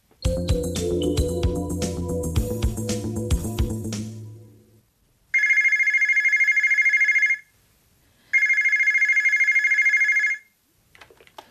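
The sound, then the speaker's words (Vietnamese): A telephone rings twice at the reception of the Société Paragem office, with a steady, shrill electronic tone, each ring lasting about two seconds with a short gap between, after a few seconds of music. The rings are clear, with no talking. “Tôi đang ở nơi tiếp khách, thì điện thoại reo.”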